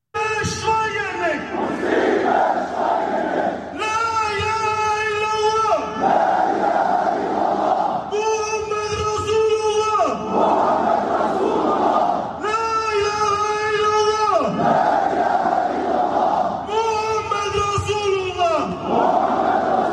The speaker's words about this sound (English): Here's Hamburg, Germany. The Islamists is protesting, and you know they got to put up all the barriers around the Christmas trees